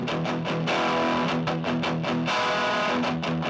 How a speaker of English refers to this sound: I recorded through a Proko Rat, the best distortion pedal, into... I just have this tiny Vox amp. It's like a 5-watt amp, and I recorded that.